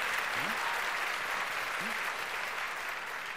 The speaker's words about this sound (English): So if I could ask you, first of all, to vote for Malcolm, please applaud now. You're going to win. I think you got it.